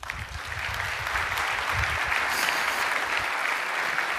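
An audience applauds steadily, a dense wash of many hands clapping at an even, fairly loud level throughout, with no voices standing out.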